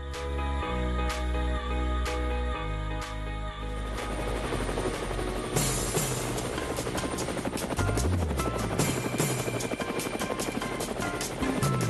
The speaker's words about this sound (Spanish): Bueno, ahí está el helicóptero, y por supuesto el helicóptero está para seguir los pasos de mi colega